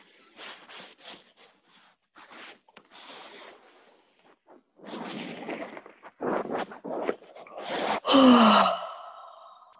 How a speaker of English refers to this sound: And the first thing you always do is stretch. And yawn.